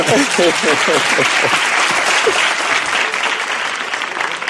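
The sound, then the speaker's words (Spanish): An audience breaks into sustained applause, a dense, steady clatter of many hands clapping throughout, with a few voices calling out over it near the start. “Esto merece un aplauso también.”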